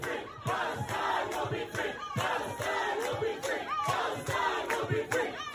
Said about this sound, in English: They're chanting, Palestine will be free.